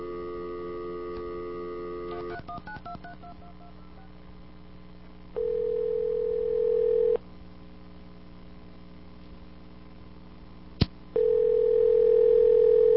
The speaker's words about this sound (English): You know, it would help if I did this. Get a dial tone first.